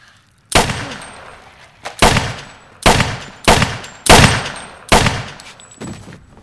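A series of six sharp pistol shots, fired by a child who suddenly pulls out a handgun, at irregular intervals, each a loud crack with a short ringing decay, with no voices present.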